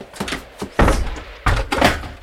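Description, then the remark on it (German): A door is deliberately and energetically slammed shut by Pigotti and bolted: a loud heavy bang followed by a second jolting thud and rattle, with a few lighter knocks around it and no voices. “Meine liebe Pigotti hat ihn absichtlich so energisch und laut zugeknallt.”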